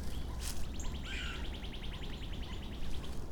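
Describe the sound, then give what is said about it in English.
A female northern flicker, standing on the same branch as another flicker, gives a fast, even series of repeated call notes lasting a couple of seconds, fairly faint, over a steady low background rumble. “That's the female flicker. Going hoot, honk, honk, honk.”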